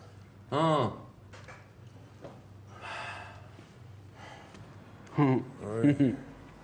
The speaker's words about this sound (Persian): یواش، چی شده؟ چرا پریشونی؟ نفس نفس میزنی؟